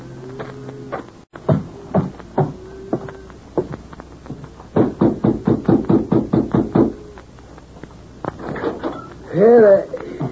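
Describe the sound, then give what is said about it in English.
Knocking on the wooden door of the Adams Ranch House: a few spaced raps, then a quick run of about ten sharp, hollow knocks, followed by a short vocal sound at the end. “That's a knock on the door.”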